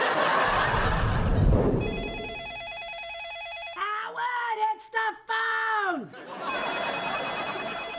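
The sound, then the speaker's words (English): A telephone rings with a steady electronic trill, sounding in two stretches separated by a loud voiced outburst, with noisy activity at the start. “It's the phone, Ma. I hear the phone.”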